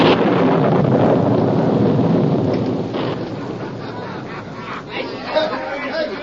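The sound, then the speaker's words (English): A loud, rumbling night thunderstorm with lightning at the Rattlesnake Inn, a heavy roll of thunder and gusting wind up front, easing into a softer steady storm rumble with scattered crackles near the end. “It was cracked, dim, and faded by many days and nights as stormy and evil as this one. Yet, in the blinding glare of a lightning flash, two words stood out in bold relief.”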